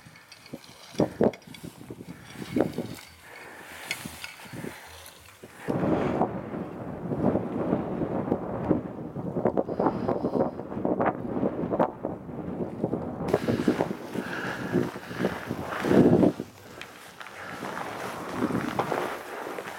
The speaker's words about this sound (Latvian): Es domāju, ka maz kāds iet uz virsotni, jo ārā ir tāda vētra